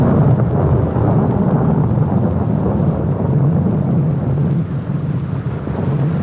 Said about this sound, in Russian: Проклятый дождь, расправу за мятеж напоминают мне рыгающие тучи.